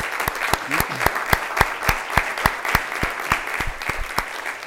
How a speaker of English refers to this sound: How about a round of applause for our board before I make some comments?